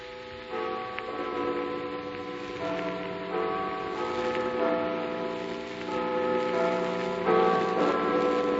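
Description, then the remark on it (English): A clock strikes one with a resonant bell tone that rings out and lingers, its humming overtones swelling over faint steady ticking, with no voices present. “And remember, when the clock strikes 1...”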